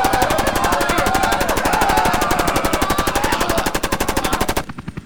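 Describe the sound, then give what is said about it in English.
A long, unbroken burst of rapid machine gun fire from a helicopter firing on terrorists on a deck, each shot cracking in a fast, even rhythm, loud throughout, then abruptly stopping with a brief fading tail. “As the chopper ceased firing and buzzed by them,”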